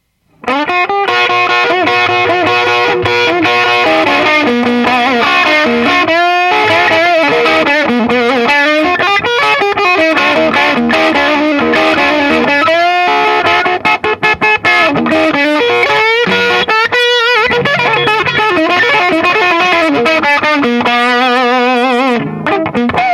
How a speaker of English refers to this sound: So we're at the output's half, the input's full. So we're distorting the unit, and now we're going to use it. It's almost acting like a distortion unit as opposed to just a straight overdrive.